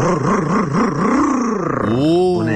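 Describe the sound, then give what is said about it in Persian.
A voice imitates a tuned-up, boosted engine revving with a loud, buzzing growl that wobbles up and down in pitch several times, then sweeps sharply upward in a rising rev near the end. “قربونت موتور تقویت کردم ببین چیکار میکنه.”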